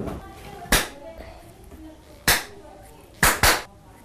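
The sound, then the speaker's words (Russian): Four sharp claps imitate raindrops dripping in a rhythm-listening game, spaced unevenly: one, another after a pause, then a quick pair near the end, over a faint background hum. “У меня прошел дождь. Капали капли. И послушай, как они капали.”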